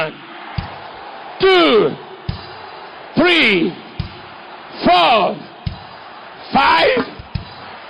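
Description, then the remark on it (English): An audience shouts "hallelujah" to the Lord together four times in loud, rising-then-falling bursts, evenly spaced, with sharp thumps like drum hits or stomps between the shouts. “Give the Lord seven hallelujah shouts.”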